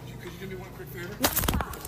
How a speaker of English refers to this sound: And at the end, you hear that little rustling. That is Alec Baldwin knocking the phone out of her hand.